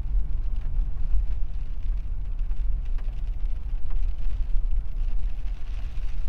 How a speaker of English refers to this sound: Damn it, I hate driving in the rain. I knew this was gonna happen.